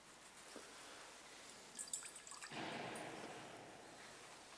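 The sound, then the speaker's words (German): A few faint drips and a light clink, then a soft, steady pour of water into the wine in a chalice that trickles on for about two seconds. “Wie das Wasser sich mit dem Wein verbindet zum heiligen Zeichen, so lasse uns der Kelch des Herrn teilhaben an der Gottheit Christi, der unsere Menschennatur angenommen hat.”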